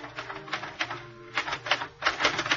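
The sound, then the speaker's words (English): Rapid, irregular clacking of a portable typewriter on a desk in a living room, keys struck in bursts with brief pauses between by a person typing with gloves on, moderately loud with a faint mechanical hum underneath. “At 9:15, I was sitting in front of the portable typewriter on the desk in her living room. I left my gloves on while I typed.”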